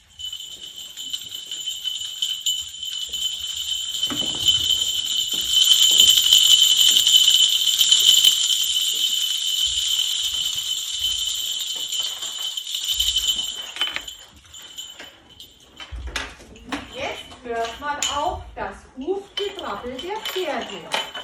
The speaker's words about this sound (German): Hört man ganz leise von Weitem ein helles, leises Schellengeläute. Es wird allmählich lauter. Da kommt vermutlich etwas näher. Ist das wohl ein Pferdeschlitten?